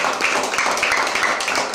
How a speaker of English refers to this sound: Auntie, I want to be a doctor when I grow up. Clap for her.